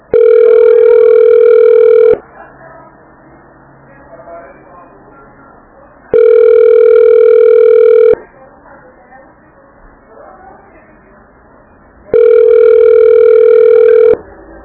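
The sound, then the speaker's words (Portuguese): A telephone line tone while on hold for the ombudsman office of Biguaçu city hall: three loud, steady electronic beeps, each about two seconds long, repeating at even six-second intervals with a faint hiss of the line between them. “Você ligou para a ouvidoria da Prefeitura de Biguaçu. Aguarde um momento para ser atendido.”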